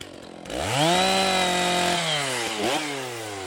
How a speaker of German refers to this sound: Der Schulhof? Ist eine Wiese am Waldrand, auf der man nichts hört. Außer den Motorsägen der Waldarbeiter, die den Rohstoff für das Sägewerk Zipfel beschaffen.